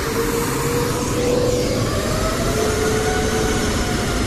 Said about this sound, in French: Vendredi 8 mai, 11h40, l'avion Air Europe de marque Airbus A330-300 se pose sur le tarmac de l'aéroport international de Bangui. Il a quitté la ville de Lyon en France la veille.